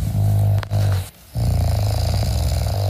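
A man snores loudly with a deep, rattling rumble: two long rasping breaths separated by a brief quiet gap, with no voices present. His wife, a listener, recorded the snoring and sent it to the radio station Antenne Brandenburg.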